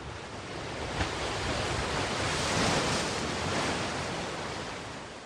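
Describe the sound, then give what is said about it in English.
Ocean waves wash steadily onto a beach in a broad, hissing roar that swells gently toward the middle and then eases back, with no voices, just continuous surf. “Peaceful sound, right? The waves hitting the beach.”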